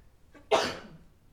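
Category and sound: human body sound, sneeze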